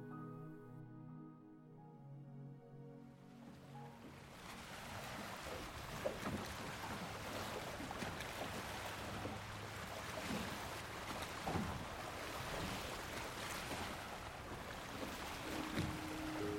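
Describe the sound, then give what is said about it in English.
After a brief tonal hum, calm sea water washes and laps steadily around a small white boat on the Mediterranean in strong sunlight, a continuous rushing swash with occasional soft splashes. “A small white boat floats on the calm surface of the sea.”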